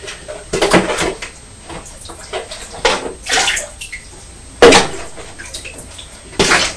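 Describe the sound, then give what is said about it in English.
A child sloshes and splashes water in a bath in uneven bursts, scooping and pouring water between plastic containers such as a bucket and bowl, with the occasional knock of plastic; fairly loud. “And then you get the water back out of the white box.”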